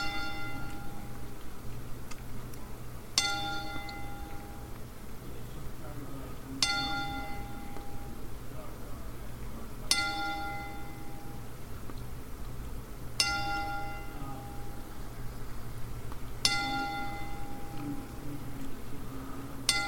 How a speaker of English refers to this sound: But before we begin on that topic, we are going to do a 10-bell salute for Mixer.